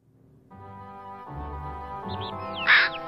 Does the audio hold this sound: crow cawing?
yes